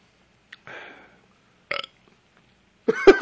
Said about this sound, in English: He swallowed his stuff and burped. So he's good.